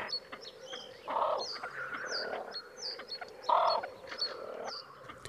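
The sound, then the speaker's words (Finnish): Two loud, harsh croaking calls from a great crested grebe during its courtship display ring out about two seconds apart across a lake, over a busy wetland backdrop of chirping birds and faint frogs. “Silloin silkkiuikku on äänekäs lintu ja kor kor kor kor kääk kääk kääk äänet kaikuvat pitkin järven selkää.”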